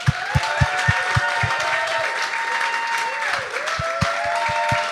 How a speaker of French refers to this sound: Mesdames et messieurs, bonne main d'applaudissement pour Rolly Assal et Noman Hosni.